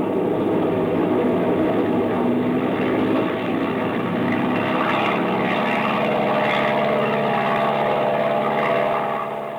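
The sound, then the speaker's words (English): The engine of a propeller airplane with a hole in its wing, trying to get airborne while being shot at, drones loudly and steadily throughout, a thick rumbling roar with a faint pulsing throb and no voices. “Yeah, we're liable to collect more than the hole in the wing if you don't get this baby airborne soon.”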